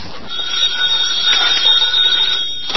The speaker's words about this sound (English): Now the phone. Quiet, will you? I'm going to answer you.